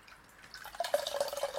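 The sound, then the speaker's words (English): Water dripping steadily from a computer mouse that fell into water: a quick, irregular run of small drips that begins softly and grows louder after a brief quiet start, with no voices. “That's my computer mouse. Why did you put it in the water?”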